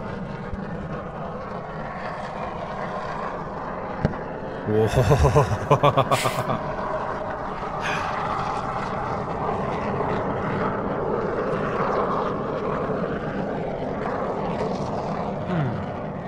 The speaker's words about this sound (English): All right, what do you think? Is that a volcano or is that an aeroplane? Is there any type of airplane specifically it could be? Could it be like a jet or a commercial airliner or? It is a human-made craft that flies through the air.